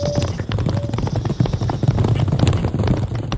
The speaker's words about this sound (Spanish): Estaban fuera arrestando a los ladrones y al parecer lo habían conseguido, porque se escucharon los galopes de los caballos que se alejaban en dirección a la ciudad.